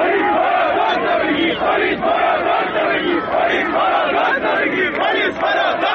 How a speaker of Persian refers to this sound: برخی دیگر از ویدیوهای تایید نشده در فضای مجازی مرتبط به تجمعی در شهر شیراز است که در آن معترضان در رویارویی با نیروی انتظامی این شعار را می‌دهند: پلیس برو دوز رو بگیر.